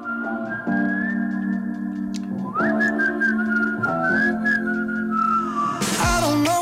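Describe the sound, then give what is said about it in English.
A clear whistled melody at the start of a song carries over steady backing music, its sustained notes gliding between pitches, before a brighter burst of instruments enters near the end. “But that original bit of the bit of whistling at the beginning is a reference to one of their own tracks.”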